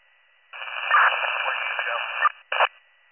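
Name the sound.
radio static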